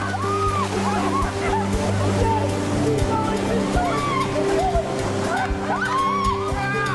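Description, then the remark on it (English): Sea water splashes and sloshes steadily as four people splash at each other in the sea, shouting and laughing, with a sustained musical tone running underneath throughout. “They splash at each other.”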